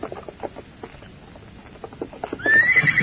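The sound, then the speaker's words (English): A horse's hooves clop in an uneven rhythm, then a loud, high whinny rises over the final half second. “Get off that horse and go inside, Redskin.”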